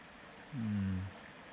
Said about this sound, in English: You can hear the stream of water on the creek. So we're next to a creek.